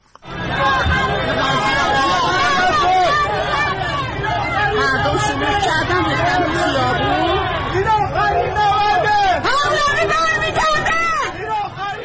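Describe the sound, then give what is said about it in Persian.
A large crowd of protesters on a Friday evening march in Nazi-Abad, Tehran, chants slogans including "this is the last battle, Pahlavi will return". Many voices shout loudly and continuously for about twelve seconds in a dense wall of overlapping voices, with occasional louder rising shouts. “تصاویری که در شبکه‌های اجتماعی منتشر شده گروهی از معترضان را نشان می‌دهد که شامگاه جمعه 12 دی ماه در راهپیمایی در نازی‌آباد شعارهایی از جمله این آخرین نبرد پهلوی برمی‌گرده سر می‌دهند.”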